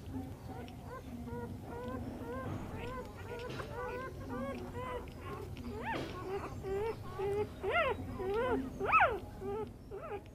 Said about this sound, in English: Now, puppies. These little black ones are all quite weak. So we're just giving them some milk.